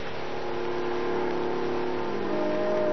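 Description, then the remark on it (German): An airplane engine drones continuously, a dense even hum with a slight rise in intensity toward the end, with no voices; presented in a radio piece as the motor of Lindbergh's plane. “Lindbergh spricht mit seinem Motor.”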